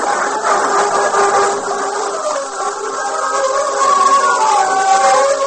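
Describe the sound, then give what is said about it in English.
The main body of a horse-drawn wagon train rolls steadily out from Fort Griswold, a continuous dense rumble of wheels and hooves with thin creaking squeals rising above it, fairly loud and unbroken throughout, with no voices. “An hour later, the main body of the train followed.”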